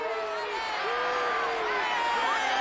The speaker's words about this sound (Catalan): Senyores i senyors, els demano un aplaudiment per al vençut, a lluitada amb valor fins a la fi.